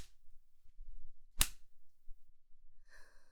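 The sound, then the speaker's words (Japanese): A single sharp crack of a hand-held whip splits a quiet stretch, loud and instant, with a faint low rustle before it and a short breathy vocal sound shortly after. “自分で握って振るう鞭の感覚、ゾクゾクしちゃう。”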